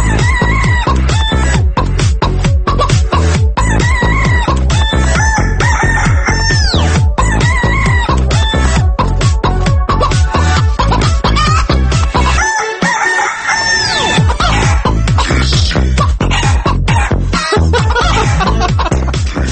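hens clucking

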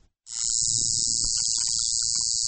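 tattoo machine buzzing

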